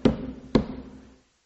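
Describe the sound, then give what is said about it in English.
Two heavy knocks on a door, about half a second apart, each a solid thud with a short resonant ring that fades to silence. No voices. “And he's banging on the door.”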